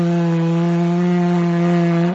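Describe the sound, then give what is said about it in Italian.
A low, steady buzzing drone from a blown instrument with no mouthpiece, played low by blowing a raspberry into it at about 40% breath. It is rich in harmonics and vibrates like a big blowfly, held at constant loudness for about two seconds with no talking. “Ma come fa a fare quel suono del moscone? Vibrando, perché vedi che non ha il boccaglio.”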